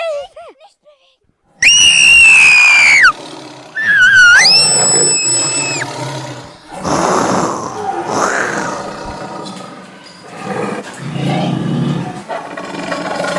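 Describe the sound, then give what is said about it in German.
A tiger roars loudly in a jungle as it attacks, a string of harsh, screeching snarls and growls in several bursts, the later ones rougher and breathier before trailing off into ragged grunts. “Ich glaub, das ist ein Tier. Ein Tiger! Ein Tiger greift mich an!”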